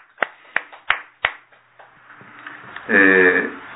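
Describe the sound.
A short burst of applause celebrating the 38th birthday of a minister from Kamishiro church: four sharp, distinct hand claps in a steady rhythm, fading out, before a voice begins speaking near the end.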